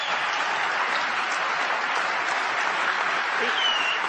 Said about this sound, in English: You like the redistricting thing, but not letting people vote. I should get some applause on that, too.